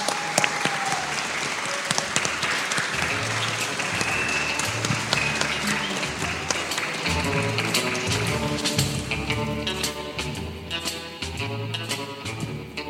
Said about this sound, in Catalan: Així que el mèrit i aquest fort aplaudiment per vosaltres, els alumnes de 5è de l'Escola Miquel Utrillo. Vinga!